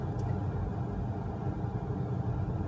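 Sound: car interior noise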